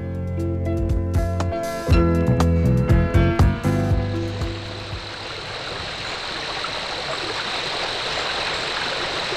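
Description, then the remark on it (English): A short burst of tonal music with sharp plucked notes fades out, leaving the steady, rushing hiss of flowing stream water that continues evenly to the end, with no one talking. “The streams begin high in the mountains of Virginia, the hills of Maryland and Pennsylvania.”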